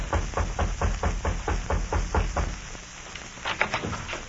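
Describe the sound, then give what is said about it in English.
A steady run of brisk, even thumps like a man's footsteps walking up the steps of a little house in the frontier town of Pierre, Dakota Territory, then a short pause and a few sharp raps on its wooden door. No voices are heard. “A man walked briskly up the steps of a little house in the frontier town of Pierre in the Dakota Territory and rapped on the door.”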